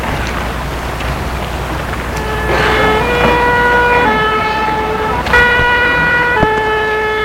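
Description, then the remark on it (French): An ambulance siren wails in a steady two-tone pattern, switching back and forth between high and low pitches over a constant rush of road noise as the ambulance drives a patient to the emergency room, fairly loud, with no talking. “Il la met sur un brancard et dans l'ambulance.”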